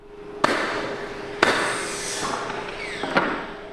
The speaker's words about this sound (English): The sound of hammers and saws ricochets off the pine floor in the auditorium of a state-of-the-art school being built next to Law Elementary. This is one of 9 new schools slated to be built over the next 5 years.